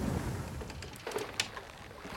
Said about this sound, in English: Sounds like a nasty storm out there, and it doesn't look like it's gonna go away anytime soon.